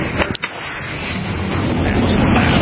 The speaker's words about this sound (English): here's some of the sonic booms.